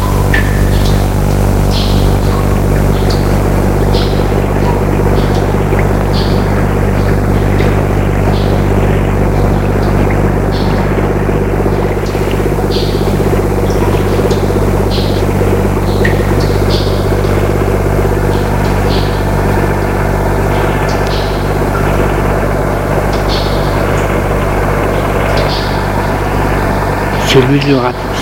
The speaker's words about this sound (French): Tout à coup, il entend un bruit sourd. Un bruit sourd. Quelque chose qui se rapproche. Un bruit qui lui rappelle quelque chose. Camion qui s'est arrêté.